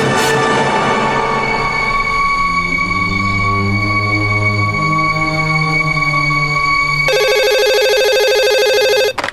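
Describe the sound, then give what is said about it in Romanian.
A telephone at a lawyer's family home rings with a bright electronic tone, sustained at first and then breaking into a rapid warbling trill near the end before the answering machine picks up, loud with no one speaking. “Ați sunat la familia avocatului Carlos Zet.”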